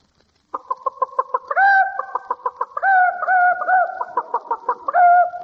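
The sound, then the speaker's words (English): A man's voice imitates a chicken, with a run of quick, rhythmic clucks broken by longer drawn-out squawks, loud with no other sounds. “Give us a chicken,”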